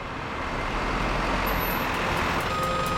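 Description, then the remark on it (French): A truck idles at a loading dock with a steady, heavy engine rumble while faint, high-pitched reversing beeps repeat at an even pace in the background, growing more regular toward the end. “Le camion se gara à l'aire de chargement et les hommes y mirent leur précieuse cargaison.”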